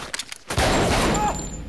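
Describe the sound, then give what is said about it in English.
A few quick, sharp gunshots crack out, then a loud, sustained burst of rapid gunfire erupts and rattles on with a harsh, noisy roar, with no voices, as Hatcher's men shoot at Beck, who takes cover behind pool tables. “As Hatcher's men try to shoot him out, Beck runs behind another pool table.”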